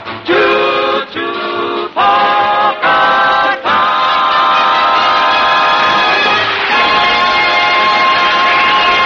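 A steam train whistle sounds four short, loud, chord-like blasts, then one long sustained wail, with the engine's rumble running steadily underneath. No one speaks.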